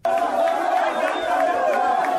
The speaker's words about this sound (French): L'engouement est très fort pour cette deuxième demi-finale. Une foule de personnes regarde avec beaucoup d'attention le match Cameroun-Égypte, ici en face de la centrale d'Enerka à Gobongo.